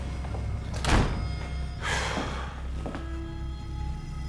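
A house door opens and shuts as a man steps through: a heavy thunk, a brief sweep of movement, then a softer closing knock, all over a steady low background hum with no voices.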